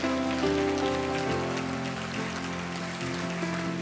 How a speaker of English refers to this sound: So stand up one more time, and we're going to give a shout for Jesus before you go. Come on, let's give a hand clap for him. Say, thank you, Jesus.